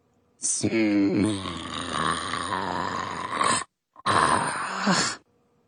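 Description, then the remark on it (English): A voice imitates the snoring of a woman fast asleep: one long, rumbling, groaning snore followed after a short pause by a second, briefer one, loud. “Evil Evelyn snores.”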